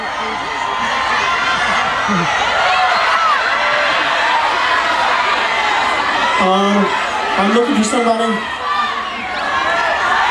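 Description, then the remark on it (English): A large live show audience cheers and shouts together as a group in a loud, continuous roar, with a man's voice speaking over the din and a few higher-pitched whoops rising out of the noise. “You think just because you cheer as a group I'm going to do it?”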